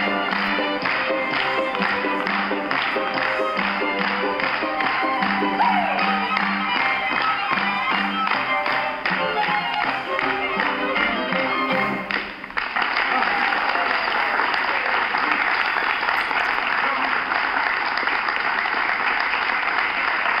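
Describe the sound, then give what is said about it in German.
A street crowd at a neurology congress, recorded on a phone camera, claps together in a steady, rhythmic beat that speeds up in an accelerando. The sharp, dense claps stay loud throughout and blur into a continuous roar of applause in the second half, with voices mixed in. “Die Tatsache, dass sie im Rhythmus auf den schneller werdenden Rhythmus reagieren.”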